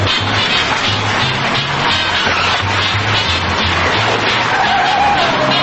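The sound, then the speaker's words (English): A car turns around loudly, its engine droning in low uneven pulses beneath a steady wash of gritty tire and road noise, with a brief whine near the end. “The car turns around.”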